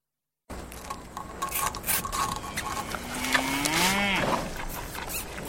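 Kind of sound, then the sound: animal, cows mooing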